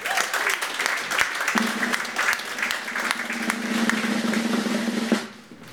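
A crowd claps steadily for about five seconds, welcoming a guest called to the front, a dense, even patter of many hands with a low hum underneath, before the applause drops off abruptly near the end.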